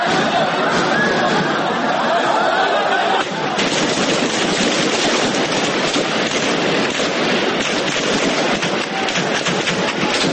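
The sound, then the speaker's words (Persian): Rapid bursts of gunfire crackle almost nonstop at a mosque in Egypt where Islamists had taken refuge, over a loud, dense roar of noise, with a shift partway through and faint crowd voices mixed underneath. “پس از شنیده شدن تیراندازی‌ها نیروهای ارتش با پرتاب گاز اشک‌آور وارد مسجد شدند و افراد داخل آن را بیرون آوردند.”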